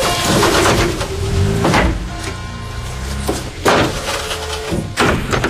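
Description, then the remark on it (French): Delivery truck doors are shut as the delivery driver leaves, a series of four loud metallic clunks a second or so apart, with rattling and low ringing between them and no voices. “C'est bien, on ferme les portes.”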